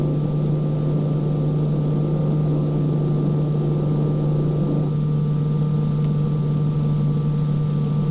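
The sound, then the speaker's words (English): The rotating mechanism of C-Pod, a space pod, gives off a steady mechanical drone with a strong low hum, running continuously and shifting slightly in texture about halfway through. No voices. “Rotate C-Pod, please, Hal.”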